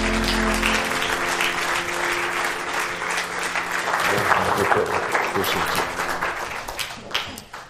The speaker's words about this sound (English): Give the Lord another hand clap tonight.